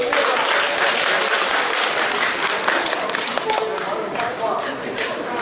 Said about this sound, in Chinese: 谢谢您啊，哎，感谢您的掌声鼓励。